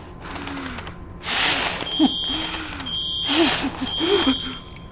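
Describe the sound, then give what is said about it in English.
A smoke alarm beeps in repeated high-pitched pulses about once a second during a fire in an office, cutting through bursts of rushing noise and muffled voices talking underneath. “There's a fire in the office.”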